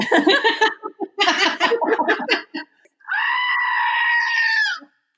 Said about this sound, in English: The goat is what they use when I go on my tangents. So that's true. I will say something and we're like, I don't even know what to say. The only appropriate response is a screaming goat.